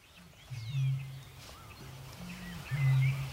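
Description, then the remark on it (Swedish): A Eurasian bittern booming from the reeds close by at a lowland lake late in the evening: a series of deep, hollow, low-pitched hoots, each swelling and fading, repeated several times, with faint higher bird chirps in the background. “Kvällen börjar bli sen här och jag höll på att säga att endast rördrommen är vaken.”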